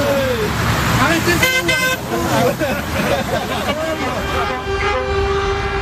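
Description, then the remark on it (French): Cars pass steadily along a busy road during a truckers' protest, a continuous traffic rumble punctuated by a couple of short horn toots, while several voices murmur and talk. “D'ailleurs, les voitures, vous pouvez le constater, elles passent aisément.”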